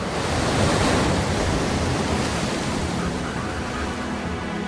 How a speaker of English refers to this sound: A female, her belly bulging with eggs. The waves are crashing dangerously close to her. Carefully, she edges towards the pounding waves.